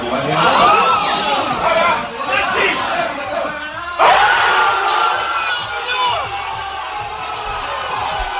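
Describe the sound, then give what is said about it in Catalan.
A packed crowd at the bar La Soca in Manresa roars and shouts after Baxi Manresa player Steinbergs's buzzer-beater three-pointer at Granada, a loud sustained wall of cheering and yelling voices that surges again halfway through before carrying on. “Així s'ha viscut el triple de Steinbergs, jugador del Baxi Manresa, sobre la botzina a Granada, al bar La Soca de Manresa”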